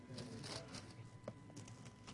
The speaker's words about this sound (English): And I want to close in the book of Jude. Oh, it's good to hear the pages turning on a Sunday morning.